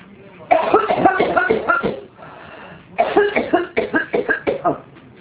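Two loud bouts of harsh coughing separated by a short pause, the second ending in a quick string of rhythmic coughs.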